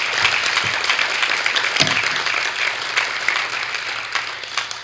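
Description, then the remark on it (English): A crowd claps steadily in dense, continuous applause to thank water plant workers for doing a good job, many hands patting at once with a bright, crackling texture and no pauses, filling the whole stretch at fairly even loudness. “So, you know, like I said, I never really brought this up too much, but I just want to say thank you to these guys and give them a round of applause for doing a good job.”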